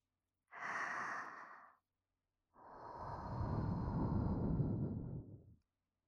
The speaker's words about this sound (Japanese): お耳に吐息をかけられるの、気持ちいいね。